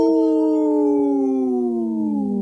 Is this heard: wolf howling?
yes